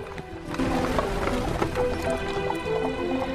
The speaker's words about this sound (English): A horse-drawn carriage trundles along a gravel path through Kensington Gardens.